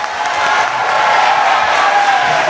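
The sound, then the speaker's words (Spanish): Audience applause at a school welcoming the school's biologist, Juan Carlos Álvarez, as a guest: a steady, dense wash of clapping hands at a fairly loud, even level with no pauses or clear individual claps standing out. “Un aplauso para don Juan Carlos.”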